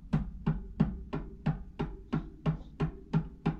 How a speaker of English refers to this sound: And so Luann goes to Leah's room. And this is how Luann knocks on the door.